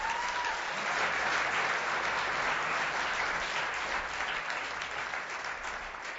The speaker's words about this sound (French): Vous pouvez applaudir le Seigneur pour ça.